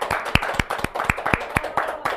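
A live audience claps steadily, with sharp regular claps roughly every quarter second and a faint wash of scattered applause and murmuring beneath; no clear speech.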